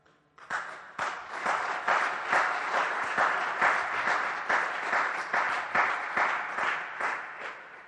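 An audience at a Sunday service breaks into sustained applause for a woman going through chemotherapy attending with her son, many hands clapping in a dense, steady patter that holds at an even level for several seconds before tapering off.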